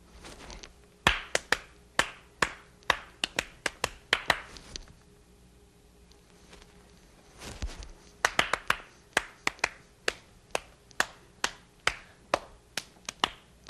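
Crisp hand claps ring out in a steady run, pause for a few seconds, then resume in a second longer, evenly paced series. The claps are distinct, with no voices.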